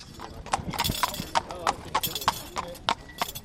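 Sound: horse hooves clip-clopping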